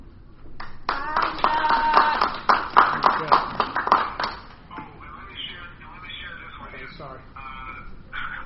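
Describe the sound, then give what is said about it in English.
An audience breaks into applause for a guest preacher, a dense burst of many hands clapping for about three seconds before fading out, followed by murmuring voices and some talk. “But if you guys could just give him a round of applause and appreciate him for coming out on this busy day to bless us with the word.”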